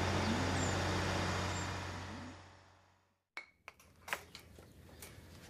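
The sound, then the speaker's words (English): A lorry's heavy engine rumbles, loud and steady, then winds down and cuts out, followed by a few sharp metallic clanks and knocks as it pulls up and comes to a stop. “Oh, I think that's a lorry. Oh, yeah, here he comes.”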